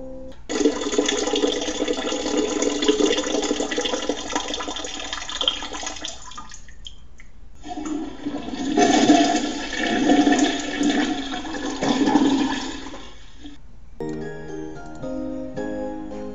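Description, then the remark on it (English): A toilet flush: two long bursts of rushing, gurgling water separated by a brief lull, followed by a short tinkling musical jingle at the end. No one speaks. “If you want me to keep on talking, then I'll stop for the pause that refreshes. And to take a piss.”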